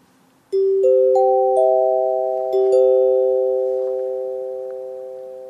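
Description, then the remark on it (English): Radio network chimes from a 1930 recording: four clear notes, low G, C, high G, E, struck one after another, followed by a quick cluster of several notes together, all ringing out and slowly fading. No voices, just the bright, sustained tones. “In both cases, the first 4 notes are low G, C, high G, E.”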